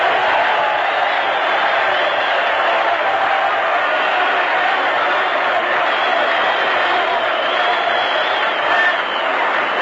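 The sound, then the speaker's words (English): A stadium crowd at a Notre Dame versus Army football game applauds an injured player as he trots to the sideline after having the wind knocked out of him, in a loud, steady wash of clapping and cheering that holds evenly for the full ten seconds, with scattered shouts in the dense roar. “Listen to the hand he gets.”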